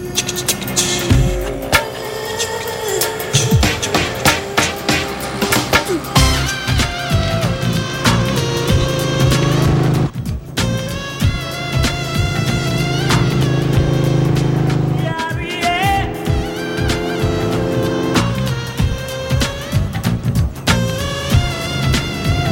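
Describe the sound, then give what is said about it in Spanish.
Yatin rides his motorcycle along the city's avenues, its engine droning loudly and steadily amid dense traffic noise, with other vehicles and horn-like tones around it and no one speaking. “Yatin circula en su moto por las avenidas de la ciudad.”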